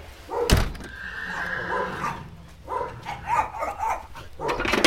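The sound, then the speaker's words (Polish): A cold-blooded draft horse, a Polish cold-blood with a dam from the Jankowice stud and a Swedish Ardennes sire, whinnies in long, wavering, high-pitched calls: first one drawn-out neigh, then a second shakier one, with a sharp knock near the start and no talking. “To jest koń zimnokrwisty, PKZ, matka ze stadniny Jankowickiej, a ojciec typowy Arden szwedzki.”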